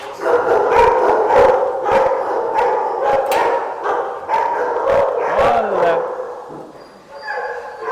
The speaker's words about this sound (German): Aber nicht alle Hunde freuen sich über Besuch. Viele verbellen Menschen